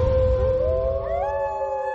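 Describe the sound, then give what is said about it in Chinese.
A wolf cub kept by a person howls in a sustained, wavering cry that slides upward in pitch, with a second voice joining partway through, loud over a low rumbling background, in Annaud's film about the Mongolian grassland. “这是我养的。 那狼群要听到声音的话，肯定会来闹的。”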